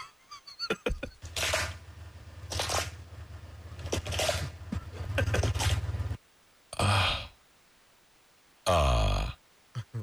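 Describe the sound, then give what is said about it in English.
An alligator crunching a tortoise's shell: loud, cracking crunches over a low rumble for several seconds, then a pause and two more separate, harsh bursts of crunching. “That is the sound of an alligator eating...”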